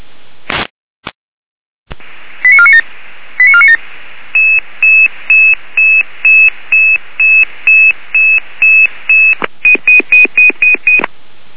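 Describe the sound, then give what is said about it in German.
A rapid series of emergency dispatch alerting tones from the Weimarer Land dispatch centre crackles over a band-limited radio channel, beginning with a couple of short two-tone chirps, then a long steady run of evenly spaced beeps ending in a quicker burst. “Leitstelle Weimarer Land mit Alarmierung.”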